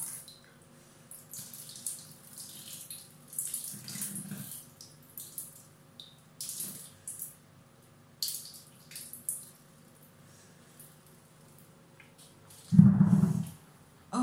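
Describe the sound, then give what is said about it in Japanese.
A long, steady stream of urination after drinking alcohol trickles and splashes for many seconds, with intermittent louder spurts and a brief heavier gush near the end; no one speaks. “すごい長いおしっこ長い。お酒飲んだ後のおしっこってすごいよねすごいですよね。”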